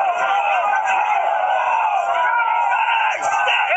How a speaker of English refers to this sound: The woman can be heard pleading with officers for peace before the horses arrive, after which the crowd can be heard fleeing in panic. Here comes the horses.